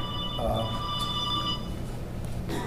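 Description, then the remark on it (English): A cell phone rings with a steady electronic tone that carries on through the whole moment, moderately loud over a low, noisy background. “Okay, let me just ask if anybody else has their cell phone on, please turn it off.”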